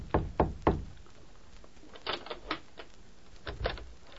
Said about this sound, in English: It was after dark when Nick rapped softly on the door of a hotel room in Mayville.